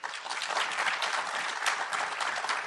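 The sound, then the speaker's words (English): An audience claps steadily for a few seconds to vote that world populations stabilizing around 2050 is the fiction, a dense, even patter of applause with no voices rising above it. “Okay, if you think that world populations will stabilize around 2050 is the fiction, applaud.”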